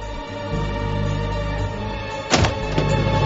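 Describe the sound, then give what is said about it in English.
A heavy roof access door at the top of a grandstand stairwell opens with a solid clunk, followed moments later by a softer knock, both heard over a steady, droning hum with a low tonal background. “This door too is marked "Alarm Will Sound." Julian opens it.”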